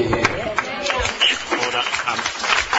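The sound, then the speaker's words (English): A burst of applause from the gallery at a Senate panel hearing on a bill, with dense, steady clapping for about three seconds and some voices mixed in beneath it. “I'll ask witnesses and people in the gallery to just keep order as best we can, and there's no need for applause and like.”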